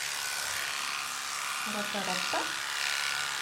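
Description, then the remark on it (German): A steady, high-pitched electric buzz of a dog grooming clipper trimming a dog's belly fur and legs runs throughout, with a brief burst of speech-like voice in the middle. “So, jetzt muss ich aber mal kurz die Maschine anmachen.”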